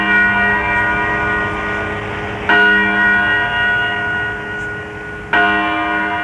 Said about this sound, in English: Well, by the sound of the church bell, it looks like it's about time to go to breakfast with my father